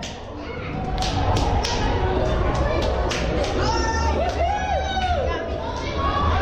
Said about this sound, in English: Okay, technically it's the sound of one hand clapping against a bunch of other hands. 295 of them, in fact. It was part of an attempt to set a new world record in Milwaukee for the most high fives in 1 minute.